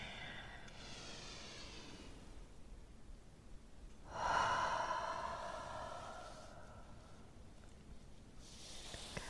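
Slow, deep breaths drawn in and let out, a few in sequence, with one louder, fuller exhale in the middle that carries a faint voiced edge. No one speaks.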